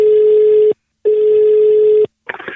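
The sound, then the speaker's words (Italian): An outgoing call's ringback tone buzzes twice, each steady tone lasting under a second with a short pause between, followed by a brief crackle as the line picks up. “Vai, telefono, vai, ciccio.”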